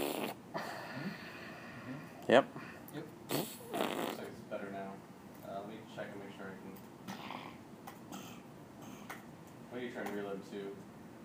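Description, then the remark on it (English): A few sputtering, squelchy hand fart noises burst out in quick succession, loud, mixed with other shuffling noises and brief vocal sounds. “When you make fart noises, do you go one hand? Do you ever do the two hands?”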